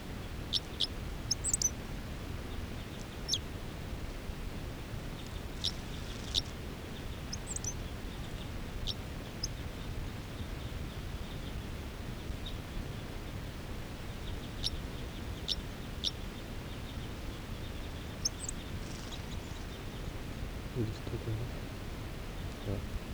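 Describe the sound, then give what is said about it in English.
A wild male bird sings short, high-pitched chirping song phrases in scattered bursts, fairly faint over a steady low rumbling background. “They're claiming there's a wild male who just gave a song phrase.”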